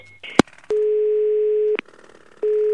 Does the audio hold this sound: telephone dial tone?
yes